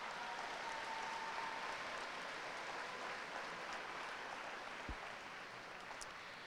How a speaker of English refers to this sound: And it is Waterford soprano, …. Please give … a big round of applause.